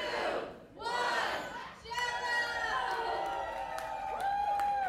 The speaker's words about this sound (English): And sometimes it's impossible to tell who won without having the audience cheer two or three times.